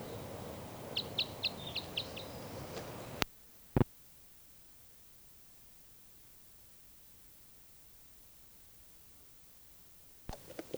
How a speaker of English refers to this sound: Recording now, I hear that bird tooping over here somewhere.